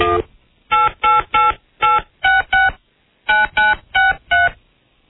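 telephone keypad dialing tones

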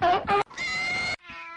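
cat meowing

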